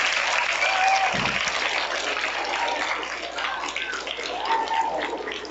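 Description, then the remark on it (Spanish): Steady audience applause at a school event for the school's academic coordinator, a dense wash of many hands clapping at a fairly even, moderately loud level for several seconds, with no talking over it. “Cabe señalar también, un aplauso que quieren dar a la tía.”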